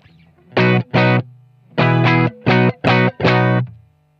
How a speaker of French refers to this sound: Et au niveau du logiciel, là, le réglage de réverb qui est ici, il est sur mute, donc j'ai pas de réverb. Donc, quand je vais plaquer un accord, on va avoir quelque chose de très très sec.